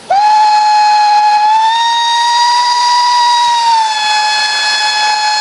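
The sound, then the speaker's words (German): A steam locomotive on the Furka mountain steam railway in Switzerland blows one long, loud, unbroken whistle blast, its pitch wavering slightly, with a faint rush of hissing steam underneath. “Das ist eine der Loken, die unterwegs ist auf der Dampfbahn Furka-Bergstrecke.”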